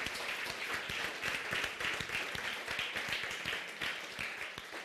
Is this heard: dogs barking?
no